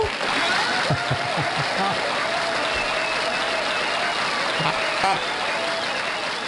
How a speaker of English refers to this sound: look at all the people in the studio. That was a lot of applause. Yeah, they call that applesauce. That's applesauce.